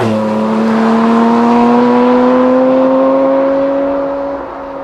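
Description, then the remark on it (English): A Porsche Cayman GT4 RS engine accelerating hard on a road drive in Germany, near the Nürburgring, its loud, steady roar climbing smoothly in pitch for several seconds before easing off slightly at the end, with no voices. “And we are in the latest and greatest Porsche, the Cayman GT4 RS.”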